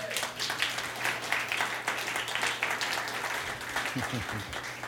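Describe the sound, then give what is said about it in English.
A crowd applauds, giving the Lord a hand clap, with dense, steady hand clapping that fills the whole stretch, loud, with a faint voice rising briefly near the end. “And give the Lord a hand clap.”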